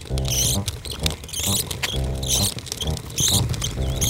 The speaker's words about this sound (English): That's how Ted, on the second floor, can hear the squeak of the mail lady's cart on the sidewalk outside our building.